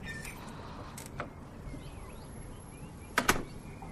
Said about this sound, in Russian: Вот сейчас мы проделаем вот эту вот процедуру. Открываем дверь, улица.